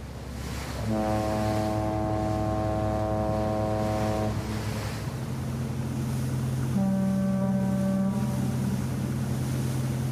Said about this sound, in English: Boat Horns by Sound Taylor captures one of the largest boat horns collections in the world.